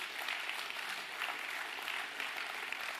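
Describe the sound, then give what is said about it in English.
An audience applauds together as the youth and kids' church are dismissed, a dense, steady wash of many hands clapping that holds at an even loudness for about three seconds, with no voices over it. “And so with that said, I want this week to dismiss all our youth and all the kids' church with a big round of applause.”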